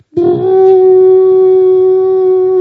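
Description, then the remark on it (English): A big elephant trumpets loudly with its trunk: one sustained, brassy, strongly tonal blast that starts abruptly and holds steady for over two seconds without a break. “And then the next thing which happened is I saw a big elephant next to me, and the elephant went like with his trunk.”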